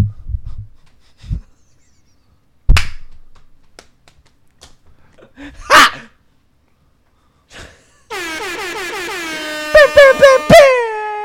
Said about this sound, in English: I'll give you an air horn on that one.